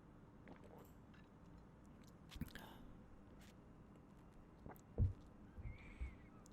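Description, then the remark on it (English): Quiet mouth sounds of someone sipping water, with a few soft wet slurps and swallows spaced out over a faint background hush. “We'll just take a sip of water.”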